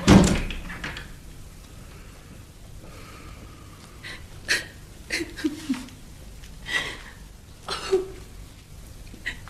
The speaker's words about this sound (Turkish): Kapatın kapıyı.